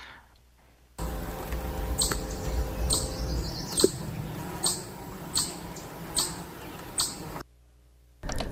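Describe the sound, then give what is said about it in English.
A chipmunk's alarm call: a steady series of sharp, high chips, roughly one every half second, repeated about ten times over a low background rumble, with no talking. “This one is the classic chipmunk noise that I do know that it tends to do if it's scared or trying to yell at someone who's coming too close.”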